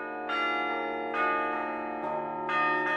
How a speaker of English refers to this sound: as a psychoanalyst, what do you feel when you're in here playing the bells?